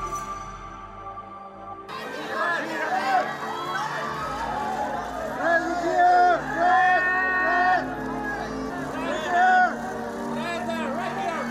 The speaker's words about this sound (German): So klangen die ersten Tage am Lido in Venedig. Jubel, Trubel und viel Gedränge am roten Teppich, vor allem für die Stars des amerikanischen Kinos.